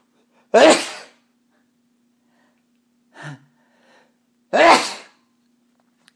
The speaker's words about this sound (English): I'm gonna sneeze. Hold on.